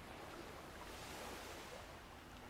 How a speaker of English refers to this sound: the beauty and the power of the ocean.